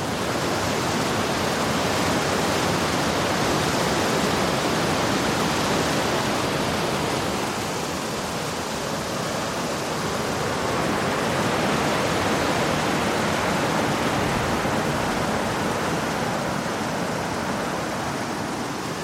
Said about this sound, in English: This is my first staging point today. This is at Inversnaid. Now there's that cracking waterfall there. Listen to that.